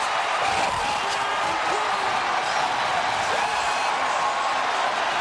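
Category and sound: crowd, stadium crowd cheering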